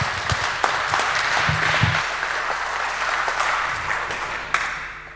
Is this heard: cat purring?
no